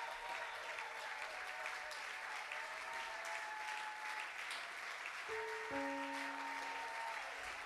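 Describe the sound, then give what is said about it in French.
A church audience claps steadily in dense, continuous applause as a couple whose union was blessed the day before stands up, with cheering voices rising through it and a few sustained tones sounding in the background toward the end. “peuvent se lever là où ils sont, sous les acclamations de l'Église?”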